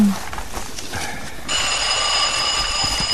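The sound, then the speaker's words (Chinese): A telephone starts ringing late at night about halfway through, a sustained, bright trilling tone that holds steady and fairly loud to the end, following a brief stretch of quiet background noise. “啊，这么晚了，是谁打电话来呢？”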